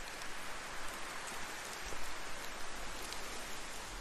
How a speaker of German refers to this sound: Die ersten Tropfen eines Regens beginnen zu fallen.